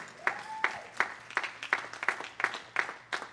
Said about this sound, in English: The people who were clapping, they were clapping because it has been a transformation for not only for them, but as for me as well.